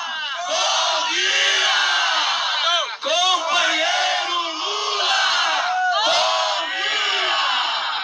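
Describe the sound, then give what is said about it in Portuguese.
A large crowd shouts together at a rally in solidarity with President Lula, many voices merging into a loud, sustained roar of yelling and chanting that swells and rises in waves, with barely a pause. “eu quero que mostrar para os nossos ouvintes o que foi que eu fiz com o microfone na frente de todo mundo, muita gente do meu lado, gritando.”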